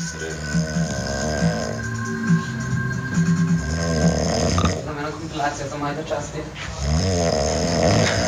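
A compilation of loud human snores, one after another, with throaty rattling inhales and a buzzing, vibrating texture that shifts in pitch and character from snore to snore.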